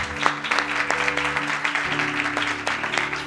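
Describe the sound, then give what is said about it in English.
A crowd claps steadily together for the Lord after a prayer, a dense, continuous patter of many hands with sharper individual claps standing out, accompanied by a low sustained instrumental tone underneath. “Let's give the Lord a hand clap for prayer.”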